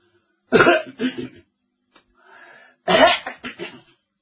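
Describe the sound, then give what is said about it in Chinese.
A person gives a few deliberate, polite coughs and throat-clearings, fairly loud, in two short clusters separated by a brief quiet pause, with no talking; coughing outside a father's study door to announce their presence before entering. “不敢进，怎么在外头咳嗽？”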